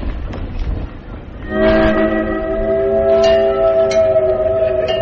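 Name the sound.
train whistle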